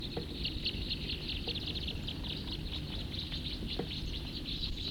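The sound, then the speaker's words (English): A steady chorus of many small birds chirping and twittering in a tree, with rapid high-pitched calls overlapping continuously above a low, constant rumble of background noise. “There's really quite a few birds in this tree right here now.”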